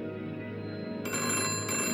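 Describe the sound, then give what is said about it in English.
A telephone bell rings loudly and continuously, a bright, buzzing metallic trill that grows fuller and harsher halfway through, with no voices. “The telephone rang, and the glass of bourbon slipped from my fingers, shattering in a mosaic haze.”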